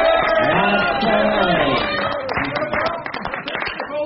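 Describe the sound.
An audience bursts into a round of applause, dense clapping building over a swell of crowd voices and whoops, loud and close, filling the whole moment.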